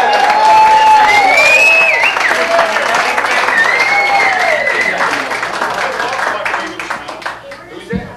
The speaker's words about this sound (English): let's show them how we do it here in Tucson, Arizona. Please welcome, all the way from Kazakhstan, they are …. Give them a nice round of hoot and holler and applause.